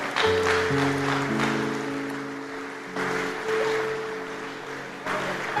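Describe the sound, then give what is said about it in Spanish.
A church audience claps steadily for several seconds during a Spanish-language sermon, applauding the Lord in the morning service, a dense wash of applause that swells in bursts, with sustained keyboard chords holding underneath throughout. “Si me están entendiendo, por favor, denle un aplauso al Señor esta mañana.”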